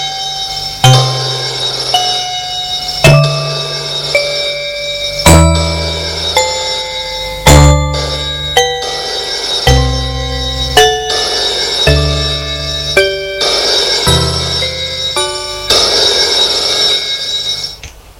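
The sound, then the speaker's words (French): A telephone rings with a loud, bell-like melodic ringtone, bright chiming notes at shifting pitches over a low bass line, repeating steadily for about eighteen seconds with no voices. “Maintenant, lorsque le téléphone sonne, elle a peur.”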